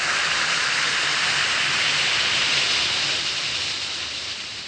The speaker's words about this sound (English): Just drop one or two Alka-Seltzer tablets into a glass of water like this. Listen to it fizz.